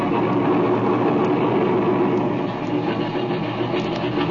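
A small airplane engine runs steadily at a low, even drone as it taxis this way, a constant rumbling hum that stays loud throughout with no voices.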